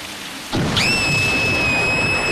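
A thunderstorm with lightning bursts in suddenly: a steady wash of heavy rain hiss with a low rumble beneath, and a sustained high whistling tone rising in just after and holding over it.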